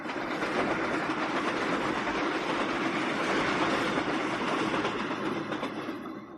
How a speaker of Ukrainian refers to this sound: Поїзд ішов швидше та швидше, і незабаром вокзал лишився позаду.